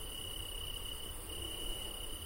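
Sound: crickets chirping at night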